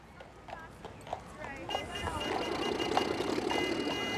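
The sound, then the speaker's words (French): Hooves of horse-drawn carriages clip-clop at an unhurried pace on Broadway, with sharp knocks spaced evenly. A dense wash of street noise with trams and murmuring voices swells in about halfway through and half-covers them. “Lorsque Monsieur Promio met en scène des tramways et des voitures tirées par des chevaux sur la fameuse rue Broadway, plusieurs passants curieux s'arrêtent devant sa caméra.”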